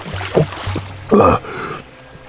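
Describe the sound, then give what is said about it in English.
Water sounds from the cold runoff of a spring: a soft trickle and low gurgling, then a brief, louder splash at about a second in as a feverish man falls belly down and buries his face in the water, followed by a fading hiss of running water. “When he reached the runoff from the spring, he fell belly down, burying his feverish face in the cold water.”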